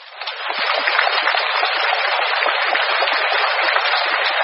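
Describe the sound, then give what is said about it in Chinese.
Sustained applause from a large crowd at an auction fills a reverberant hall, many hands clapping densely and steadily after a brief rise at the start, with no voices standing out. “台长说那是当时的会场鼓掌。”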